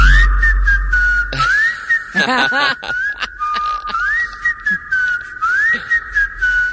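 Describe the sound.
A person whistles a wandering tune, a clear steady tone with rising swoops and held notes, fairly loud, with some brief bleating-like sounds partway through.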